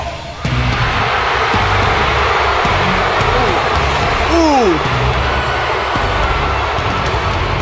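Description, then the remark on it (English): A huge arena crowd boos Roman Reigns, the heavyweight champion, in a loud, unbroken roar that kicks in abruptly and holds steady, with a brief falling whistle-like cry cutting through about halfway. “I love having a nice prep sheet where we talk about things, but my absolute favorite thing that we do is get clips of just the people booing the shit out of Roman Reigns.”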